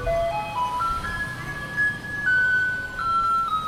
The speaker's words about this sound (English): That's A Maiden's Prayer by Polish composer Tekla Baranowska. And in Taipei City, the garbage trucks just alternate between these two songs.